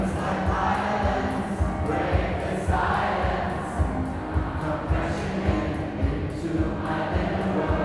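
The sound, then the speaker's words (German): A dancing crowd at a mass karaoke event sings along loudly, not well but loud, over pounding live keyboard, drums and vocals with a steady thumping beat, swaying on the spot and circling their arms, the voices merging into a dense, roaring mass that fills the whole space. “Verzückt schwurft das Publikum auf der Stelle, lässt die Arme kreisen und singt aus vollem Halse mit.”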